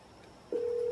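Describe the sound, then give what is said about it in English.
A phone line's ringback tone after dialing a number, played through a small Bluetooth speaker, switches on halfway through: a steady, clear electronic hum that holds unbroken to the end, with no voices present. “It's ringing. It does ring a few times.”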